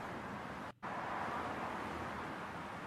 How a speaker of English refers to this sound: Here we go. I knew it would be there. Yeah. This is a highway sound.